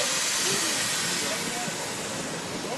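A passenger train runs along the Trans-Mongolian Railway from Beijing to Ulaanbaatar, crossing the Gobi Desert, giving a steady, loud, hissing rush of noise that continues without a break, with faint indistinct murmurs buried underneath.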